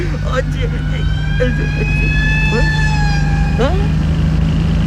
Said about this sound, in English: There goes a siren, man.